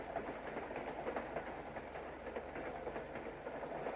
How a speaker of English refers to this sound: The train leaves the station.